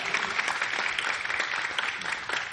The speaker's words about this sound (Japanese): あら、拍手が少ない。いや、私にせず神様に拍手しよう。